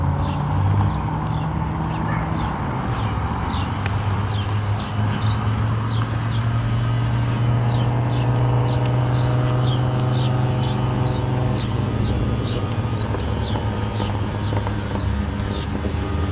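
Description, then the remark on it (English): A rough car engine with no muffler drones loudly and steadily, its low growl shifting pitch as it revs. Robins chirp intermittently in the background throughout. “It's a car that needs a muffler, I think.”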